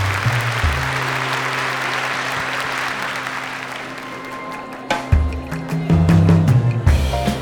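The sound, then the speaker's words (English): A crowd at a live chamber of commerce event in Saskatoon applauds steadily, dense clapping for several seconds, with a swell of louder cheering and clapping near the end as the applause intensifies. “I'd like to offer you a round of applause for joining us.”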